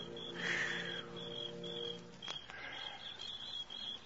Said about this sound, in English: The sound of birds and crickets seemed loud in my ears as we stood there, looking at each other, saying nothing.